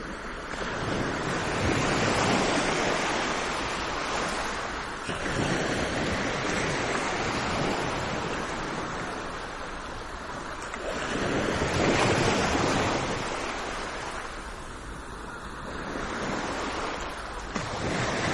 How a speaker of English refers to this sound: I am standing in front of Atlantic Ocean near Saint-Palais Seaside Resort in France. Foots in sand, and I listen closely to the endless thin rhythm of waves. This is a very simple recording, but it brings so many souvenirs.